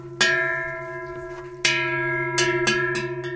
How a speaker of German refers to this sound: Eine Kuh steht auf der Weide, um den Hals hängt eine Glocke. Und die bimmelt bei jedem Schritt munter vor sich hin.